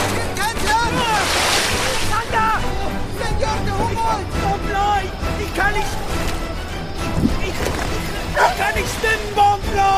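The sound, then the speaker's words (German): A loud, steady rush of gusting wind and churning waves slapping against an overloaded boat on the Orinoco, with surges of spray as water runs into the rocking boat. Voices sound throughout, partly buried beneath the water noise. “Eine heftige Windböe peitscht auf das überladene Boot. Es schwankt bedrohlich, immer mehr Wasser läuft hinein.”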